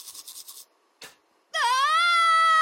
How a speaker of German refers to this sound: Mit Schreien stoppst du kein Zahnfleischbluten.